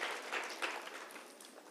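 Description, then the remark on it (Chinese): An audience applauds event leaders and core group members who have been asked to stand up. The clapping is steady and dense, blending into a continuous crackling wash that holds fairly even before easing off slightly toward the end. No one speaks over it. “核心，来站起来，你有在办活动的，各地云顶也是一样 ，come on， 给他们一些掌声，跟他们讲说，有你们真好。”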